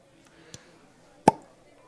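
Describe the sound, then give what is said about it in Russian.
A bottle of sparkling wine is uncorked: a faint tap, then a single sharp pop with a brief ringing tail over a quiet murmur. “Да, классный звук. Открыть было. Оно вот пенится, как пиво, но это не пиво, это вино.”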